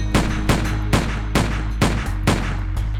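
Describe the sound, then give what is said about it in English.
A rapid string of six sharp gunshots, evenly spaced roughly half a second apart, loud over a steady low rumbling background, with no voices; fired in the street outside a London pub around 9:20 p.m. “Six blasts rang out, one after another.”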